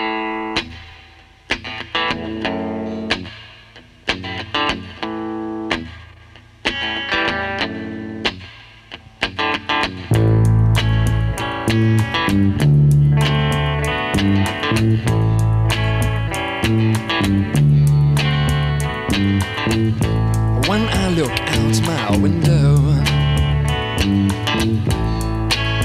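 A folk-rock instrumental intro opens with sparse, effects-laden electric guitar, then a fuller band with bass and drums kicks in partway through, loud and steady, with no singing yet.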